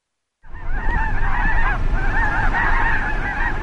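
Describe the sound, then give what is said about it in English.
A large flock of geese honks continuously, many overlapping calls layered loud over a steady low rumble of wind or noise, with no voices. Thousands of migratory birds at the wetlands of the Sunny Bono National Wildlife Refuge, southern end of the Salton Sea, a stop along the Pacific Flyway. “There are thousands of birds here today, using the Salton Sea's wetlands as one stop along the Pacific Flyway for migratory birds.”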